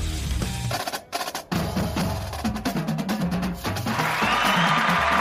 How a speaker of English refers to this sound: Oh, yeah. Got the applause. Let's go.